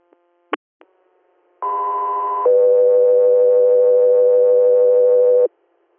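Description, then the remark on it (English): A couple of sharp clicks, then a two-tone radio dispatch alert for the Southbound 3 Air crew, calling a scene standby in Cayuta, Schuyler County, New York: a steady higher tone for about a second, then a longer, lower steady tone lasting about three seconds, loud, with no talking. “Southbound 3 Air, standby for tones.”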